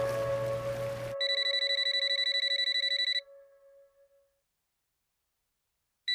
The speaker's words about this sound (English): The phone rings. I pick up the phone.